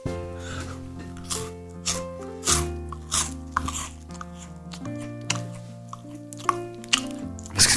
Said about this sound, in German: Was knuspert denn jetzt hier so?